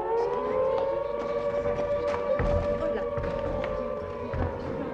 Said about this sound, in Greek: Μα ξαφνικά είχε ακουστεί πάλι η σιρήνα που μούγκριζε από την πιο ψηλή στέγη και φώναζε πως ξαναφάνηκε ο θάνατος και ολοπλησίαζε στην πόλη.